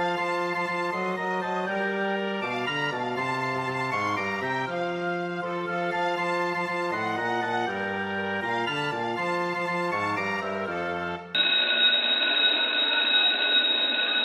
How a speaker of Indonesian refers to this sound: Baik anak-anak, bel tanda istirahat sudah berbunyi. Kalian boleh istirahat selama 15 menit.